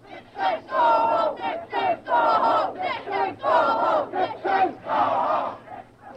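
crowd of demonstrators shouting

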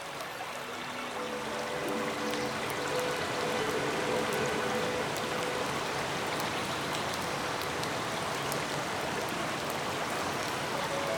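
waterfall rushing

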